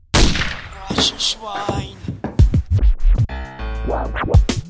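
A loud gunshot cracks out, followed by a cluster of sharp, booming bangs and thuds in quick succession against a busy, noisy background.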